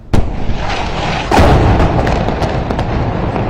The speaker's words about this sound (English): She continued providing details of the strike, even as loud explosions forced her to move away from a rooftop position.